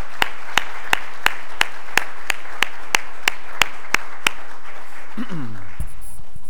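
An audience at Pioneer Bible Church applauds in steady unison, about a dozen sharp claps on an even beat, then the clapping stops and a brief falling tone sweeps downward.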